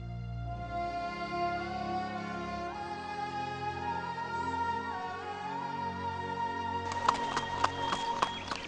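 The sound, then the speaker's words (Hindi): Sustained droning music plays throughout, and near the end a horse named Duldul starts clip-clopping its hooves in a steady, even rhythm, a handful of crisp hoofbeats ringing out over the music. “अगर आपको छोड़ दिया जाए तो ग़ुरूबे आफ्ताब तक इस घोड़े के साथ लगे रहेंगे।”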